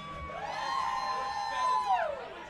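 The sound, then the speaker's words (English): A live-show crowd cheers and whoops in a sustained, fairly loud swell, joining in on the phrase 'roach clips with feathers on them', with high voices holding long 'whoo' tones that rise, hold steady, then slide downward near the end. “That was crowd participation at its finest right there.”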